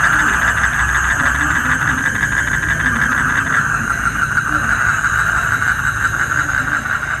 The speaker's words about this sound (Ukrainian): Сюрчить щось так, ніби великі коники-стрибунці. Я, чесно кажучи, чесно зізнатись, я не знаю, що це сюрчить, але бо, ну, звук я записувала цей ввечері, я не знаю, важко розгледіти, але я так думаю, можливо, це якісь дійсно коники-стрибунці, можливо.